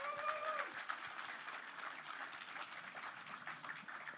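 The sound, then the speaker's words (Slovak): An audience at the start of a Slovak talk event applauds steadily as Prime Minister Ludovít Odor is welcomed, dense overlapping claps forming a continuous patter for several seconds, with a brief high whistle-like tone near the start. “Dobrý potlesk na začiatku môže byť problém, lebo na konci môže byť slabší, tak musíte sa trochu viacej snažiť.”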